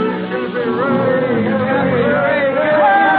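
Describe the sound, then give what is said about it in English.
A large crowd of sailors and ship owners cheers and calls out together on the steps of the Blue Star Line by the wharves, congratulating Cappy Ricks on his 60th birthday, a loud, dense wall of overlapping voices that carries on steadily without a break. “On the steps of the Blue Star Line, Cappy Ricks, the president, faces a huge crowd of sailors and ship owners.”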